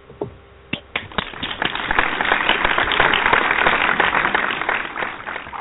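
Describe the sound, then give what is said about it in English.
One person claps hands to applaud Mark Pellegrino's return as Lucifer on Supernatural: a few sharp, separate claps at first, then quickly building into rapid, steady, continuous clapping that keeps going until the end, with no talking. “That's me clapping for Mark Pellegrino.”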